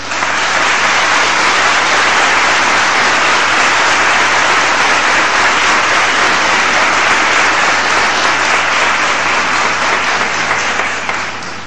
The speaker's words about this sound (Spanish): otra vez estalla el pueblo y suena una ovación que es oración y rezo